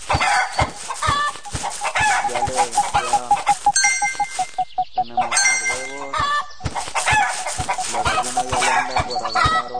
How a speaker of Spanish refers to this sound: Otra vez la gallina.